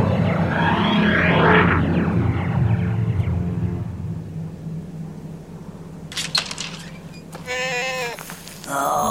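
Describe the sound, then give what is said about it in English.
A goat-like creature called a Petulane lets out two quavering, wavering bleats near the end, fairly loud, after several seconds of rumbling, whooshing background noise. “Looks more like a goat to me.”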